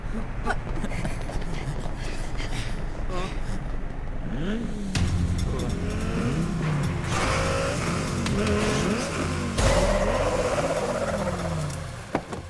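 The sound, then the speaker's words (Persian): A car engine revs and changes pitch as the vehicle drives off, with tire squeals and overlapping talk throughout, fairly loud. “هی ماشینه رو میبرین؟ بله معلومه که میبریم.”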